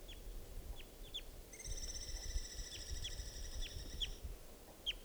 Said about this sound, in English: There's a wild, immature, I believe, male here, molting into sort of an orange plumage, and that's him calling.